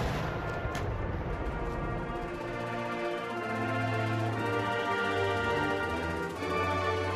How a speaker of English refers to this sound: History's timeline marked off in cannon shot.